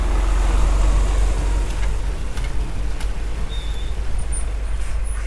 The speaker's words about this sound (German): Im 5-Minuten-Takt fahren große Lkw das Rohmaterial zur Biogasanlage am Flughafen Hahn. 42 Tonnen zeigt die Waage bei diesem Laster